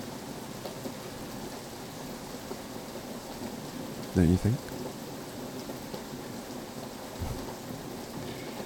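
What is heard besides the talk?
heavy rain with thunder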